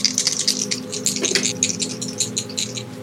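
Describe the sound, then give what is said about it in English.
Dice rolled for a stealth roll in a game rattle and clatter in a rapid, uneven flurry of small sharp clicks for about three seconds, fairly steady in loudness, with no voices over them. “Let's do a stealth roll then.”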